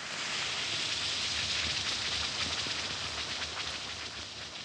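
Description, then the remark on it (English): An Alka-Seltzer antacid tablet fizzes in water, a steady, dense hiss of tiny popping bubbles that crackles on at an even level for several seconds, with no voices. “Yes, it's that cheerful Alka-Seltzer fizz.”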